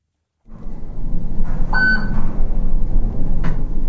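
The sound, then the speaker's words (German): A hotel elevator in Charleston, West Virginia, rumbles and hums loudly in a steady low drone, with a bright electronic beep chiming around two seconds in and a brief metallic clank toward the end. “Sogar der Lift im Hotel in Charleston, West Virginia, klingt wie ein Grubenlift beim Einfahren in den Kohleschacht.”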